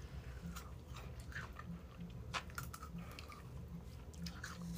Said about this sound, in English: You guys are hearing us eat this.